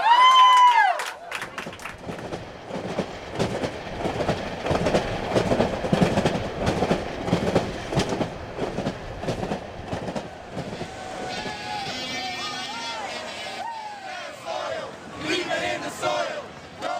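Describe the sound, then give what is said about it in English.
A large crowd of activists chants loudly in a steady, rhythmic cadence outdoors at a train stop, greeting a climate train on its way to New York, with rail-yard clatter underneath and higher, tonal voices rising over the noise toward the end. “Along the way to New York, activists held rallies at train stops, greeting the People's Climate Train with songs, chants, signs, and solidarity.”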